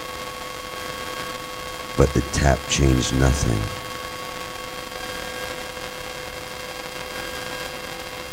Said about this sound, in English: The soldier tapped the radio in bored frustration with his swollen red hands, hoping the shock would encourage a message, a voice, just a simple hello, to break through the monotonous static.